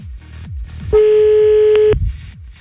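A telephone ringback tone sounds on the line as a Fun Radio show phones a listener in Vénissieux, in the Rhône, France: one steady, mid-pitched beep lasting about a second, loud over a low, pulsing background rumble, with no voices.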